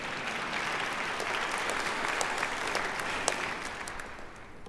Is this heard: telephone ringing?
no